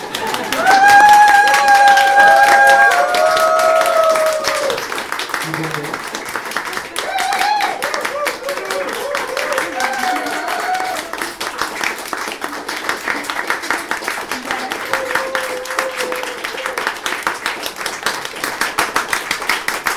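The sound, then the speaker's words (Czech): Audience applause after being asked to clap: dense, continuous clapping from many hands, with a few voices calling out over it early on, becoming steadier and more rhythmic toward the end. “A teď netleskáte, ale my bychom potřebovali, abyste tleskali.”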